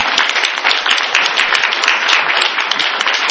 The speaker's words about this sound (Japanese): 拍手持ってお礼していただきたい。